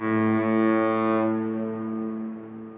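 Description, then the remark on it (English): A single long ship horn blast: a loud, steady, low droning tone held for about three seconds with no voices, its brassy edge softening partway through. “And with that, let's move on to one more very fast article, and then this ship is sailing out to sea. Don't miss the boat. Don't miss the education. Here we go. Sound the horn.”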